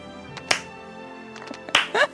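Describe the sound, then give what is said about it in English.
A few slow, widely spaced hand claps ring out sharply over a steady background of voices and tonal sound, each clap separated by a long pause, as a bobsled team carries its sled on their shoulders to finish the race after a crash. “The slow clap, yep.”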